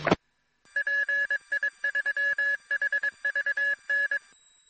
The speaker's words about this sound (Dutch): Ja, ik kreeg nog een pookje dat het wel 1100 en 1900 hertz was van die tweetoonmeting voor enkel zijband.